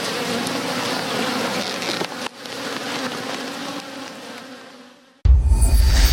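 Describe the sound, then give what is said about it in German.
A dense, steady hum of a honeybee colony buzzing together, continuous, fading slightly before a louder, rougher burst of buzzing cuts in at the end. “das ist einfach schön, dann im Frühjahr zu sehen, wie die Bienenvölker groß und stark werden und vor allen Dingen gesund sind.”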